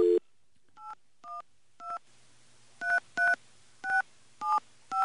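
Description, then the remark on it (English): A telephone number, that of the United Pentecostal Church parsonage, is dialed on a keypad: a rapid series of eight short touch-tone beeps, each a two-pitch chime, in uneven rhythm with a faint hum between them. “I'm calling the parsonage?”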